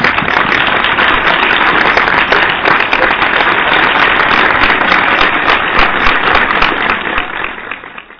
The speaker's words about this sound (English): So can we just welcome and thank our president by giving her an applause before we bring her on